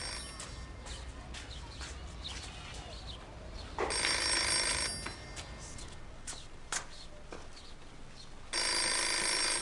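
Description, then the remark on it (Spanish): A telephone bell in a house rings in two loud, sustained bursts, each lasting about a second, separated by a pause, with faint background noise and scattered clicks in between. “¿No hay nadie en esta casa que conteste al teléfono?”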